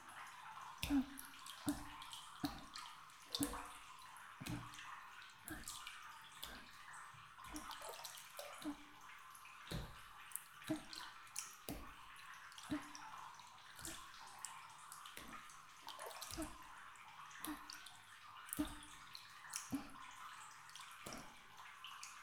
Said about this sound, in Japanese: じゃあまずは軽く叩いていくね。